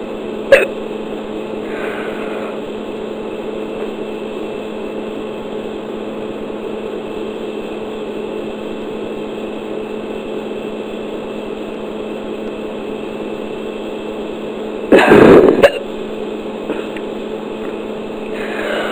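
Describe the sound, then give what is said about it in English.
A steady low hum fills a long quiet stretch, broken by a faint tick near the start and then a single sharp hiccup near the end, as a person holds their breath to try to stop the hiccups. “I'm gonna try to hold my breath and see if that'll help the hiccup stop.”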